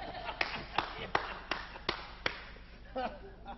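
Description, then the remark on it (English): Six sharp, evenly spaced knocks in a steady rhythm, as if rapping on a door, loud, followed by a brief murmur of voice near the end. “That's how you go soul winning if you have a knock on a door.”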